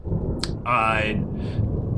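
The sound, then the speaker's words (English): A deep, continuous low rumble of thunder rolls throughout, with a brief voice-like vocal sound rising over it in the middle. “So, as you guys are talking, you start to hear rumbles of thunder.”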